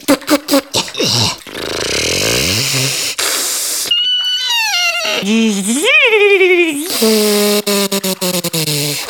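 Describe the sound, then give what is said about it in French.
A voice imitates the strange noises of a failing hot water tank: sputtering pops, a rough grinding rasp, then whining, warbling tones that rise and fall, ending in a buzzing rattle. “Mon réservoir à eau chaude vient de me lâcher.”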